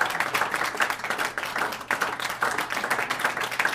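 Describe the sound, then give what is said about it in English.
A crowd at a live show applauds the performers steadily, many hands clapping in a dense, continuous patter that stays fairly loud throughout with slight swells, and no voices stand out. “Big round of applause for my man ….”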